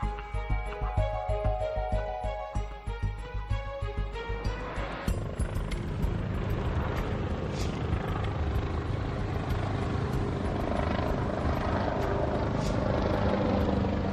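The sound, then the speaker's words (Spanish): Helicopters flying in and out of a valley thump with fast, steady rotor chop that gives way to a broad, loud engine roar and whine, as if a helicopter is passing by. Some of the helicopters are very large, others smaller. No one speaks. “Este sonido es el sonido de los helicópteros que salen y entran del valle en el que estamos intentando entrar nosotros.”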